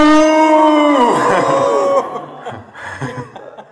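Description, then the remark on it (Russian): A person loudly imitates a cow with one long, drawn-out moo that slides downward in pitch, then breaks into softer, scattered chuckling and breathy vocal noises. “Нужны коровы, которые начинают мычать.”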